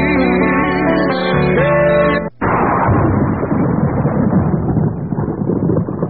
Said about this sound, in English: That's a kind of a good sound for you, Matthew. I wonder if that's... The lightning bolt? Yeah, it is.